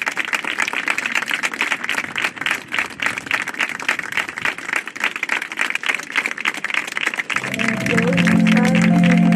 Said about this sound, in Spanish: Cerrado aplauso recordaba este sábado al joven enfermero de 24 años en una vigilia celebrada en el Paseo Marítimo, justo donde Samuel dio sus últimos pasos antes de que unos desconocidos le arrebatasen la vida a golpes